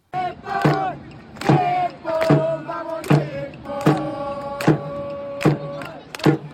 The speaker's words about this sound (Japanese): それでも日本のサポーターによる日本コールがスタジアムに響けました。